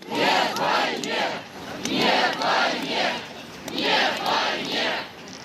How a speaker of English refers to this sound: So that's last night in Moscow, where a crowd of several hundred were chanting no to war.